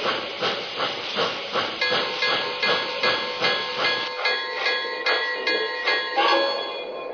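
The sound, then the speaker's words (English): A loud, steady hiss from train number 7, the Maple Leaf from Buffalo, on track one at the Battle Creek station platform, pulsing in a quick regular rhythm for several seconds and fading slightly toward the end, with no voices. “from Buffalo on track one, train number 7, the Maple Leaf.”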